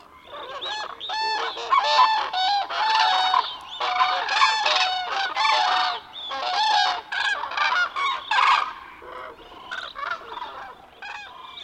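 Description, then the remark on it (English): A large flock of cranes honks continuously in the early morning as they set off on their journey northward, a dense, overlapping din of loud, brassy calls with no pauses and no voices. “The din of honking from a large flock of cranes can be heard from miles away.”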